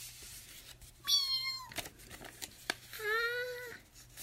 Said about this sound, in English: Meow. Meow. Meow.